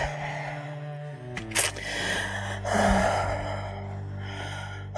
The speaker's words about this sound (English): That whimper. That need. That's the valley.